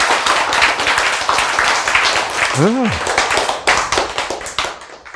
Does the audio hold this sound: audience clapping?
yes